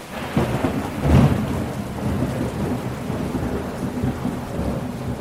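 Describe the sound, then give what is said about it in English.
Heavy rain pours steadily in a thunderstorm, with a low rumble of thunder swelling near the start over the constant dense hiss of rainfall. “And worse, climate change has intensified the rainy season, and more rain has meant more floods.”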